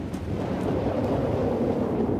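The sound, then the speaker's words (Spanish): A strong, steady wind roars continuously with a deep, rumbling low end, loud throughout, blowing harder over a lake as the sky darkens and a storm approaches. No voices are heard. “Todos siguen navegando tranquilos, disfrutando del lago, cuando de repente el cielo se oscurece y el viento comienza a soplar más fuerte.”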